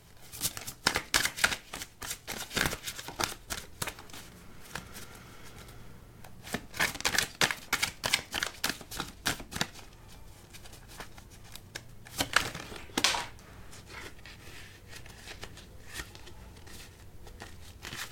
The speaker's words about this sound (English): I saw the card that fell. I want to get through the shuffle though to make sure that there's nothing left.